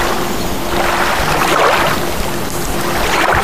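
Water sloshing and splashing continuously, a steady, fairly loud churning wash with no pauses and no voices.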